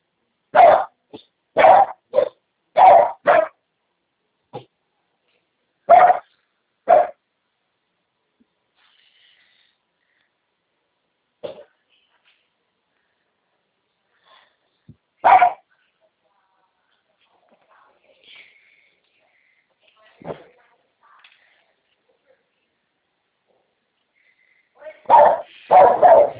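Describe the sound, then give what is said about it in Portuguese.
A dog barks repeatedly in short, loud bursts, with clusters of quick barks at the start and end and scattered single barks and quieter sounds in between. “Senhora, me desculpe, chegou urgente aqui, o cachorro está latindo, tem que atender.”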